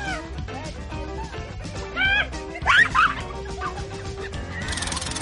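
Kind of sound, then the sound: bird, rooster clucking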